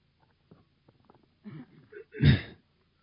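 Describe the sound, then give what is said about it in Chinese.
A few soft clicks and breaths lead into a short, throaty build-up, then one loud, harsh cough from a preacher with a lingering cough during a sermon in Texas, before it cuts off. No one speaks. “那请原谅我一直在咳嗽，那我一直在讲道，我有这个传道人的喉咙呢，那天我全身湿透，自从我来到德克萨斯州的蹦蹦特这里，那我好像一直有点咳嗽。”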